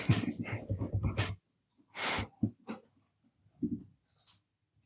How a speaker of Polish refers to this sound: To nie my chrupiemy chipsy, tylko tak. Pies chrupie kość.